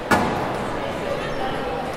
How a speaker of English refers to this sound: So there you have it, the three audio components of squash. Whack, grunt, squeak.